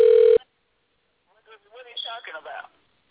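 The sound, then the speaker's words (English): A short, loud burst of a telephone ringback tone on an outgoing call, cutting off abruptly, followed after a pause by a voice speaking over a telephone-quality line. “You hear the phone ringing now.”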